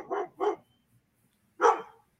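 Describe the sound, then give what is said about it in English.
A dog barks three times as a boy in a Megan Halloween costume, from the 2022 horror film, scares it on video: two quick barks close together, a short pause, then one louder final bark. Clear, with no one talking. “He's been scaring a dog, it looks like.”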